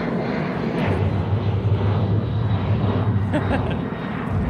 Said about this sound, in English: Is that a... Oh, I thought that was a... thought that was a blue jet.